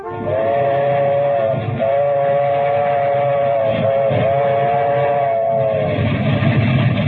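A steam train approaching Grand Central Station in New York rumbles loudly while a long, steady whistle blows over it, briefly dipping and resuming, with chugging and clattering underneath throughout.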